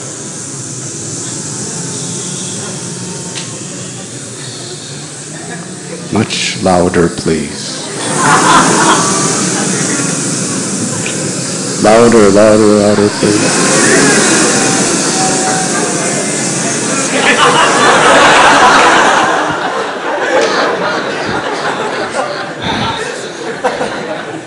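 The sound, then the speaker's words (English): A crowd imitates buzzing bees in a sustained, rough drone that swells louder in several waves, while one voice calls out to urge them on and scattered laughter breaks through. “And do you hear their buzzing? Bzzz. Do you all know what bees sound like? Everyone, try to do as best you can.”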